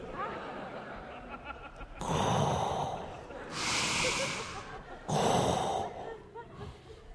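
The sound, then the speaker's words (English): A voice imitates a fish breathing with three loud, breathy huffs and snorting gasps, evenly spaced, over a low murmur of background noise. “This fish was breathing.”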